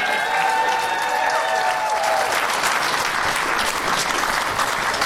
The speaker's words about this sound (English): And let's give them individual rounds of applause, starting with first-time guest on the show.